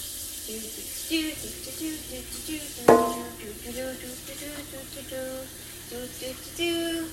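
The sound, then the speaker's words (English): Water pours steadily from a sink tap into the bigger of two pots, being filled for cooking ramen and boiled eggs: a continuous hissing rush with faint ringing tones, broken once midway by a sharp metallic clank. “We'll fill the bigger one with water”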